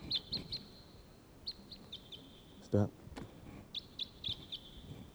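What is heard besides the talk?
crossbill flight calls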